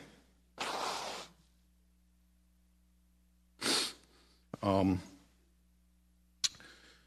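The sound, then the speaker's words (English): Someone blows their nose in several loud, forceful bursts: a long honking blast, then shorter snorts and a brief sniff, with quiet pauses between. “By the way, let me blow my nose here before I know you're not supposed to do that in front of people.”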